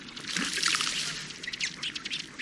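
A male ruddy duck runs across the water with rapidly beating wings after its bubbling courtship display: a quick run of soft, splashy patters of its feet slapping the surface in rapid succession, putt-putting like a little motorboat, fairly steady for a couple of seconds with no voices.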